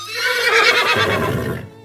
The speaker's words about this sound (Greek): Το άλογο χλιμίντριζε.